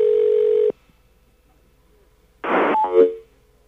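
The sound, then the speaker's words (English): A steady electronic telephone tone holds for under a second and cuts off, then after a pause a harsh, noisy line-connection burst crackles in with a rising warble as a phone call to the BAI radio station picks up, loud with no talking. “Then you hear what the listeners hear when the phone picks up, which is kind of a weird noise.”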